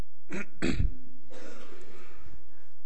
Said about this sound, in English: Well, I'm slightly nursing a bit of a cough, but we hope we'll get through without too many interruptions.